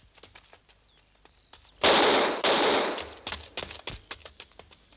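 gunfire

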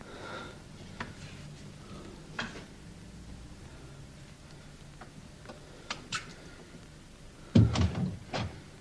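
door opening and closing

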